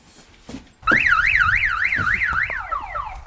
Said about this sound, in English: What, in case someone steals it? When was the last time you heard an alarm up here?